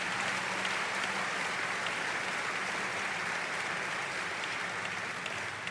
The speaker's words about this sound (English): Let's give our governor a big round of applause.